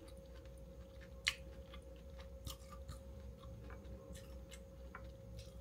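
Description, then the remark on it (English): Crunchy chewing of a cheese-filled snack, with a sharp bite near the start followed by a steady series of soft crackling crunches and mouth sounds over a low background hum. “Did you hear that crunch?”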